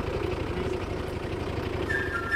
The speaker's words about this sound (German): So, wir wären jetzt soweit, dass wir gleich mal die Autos starten. Und oh, jetzt geht's schon los, ja.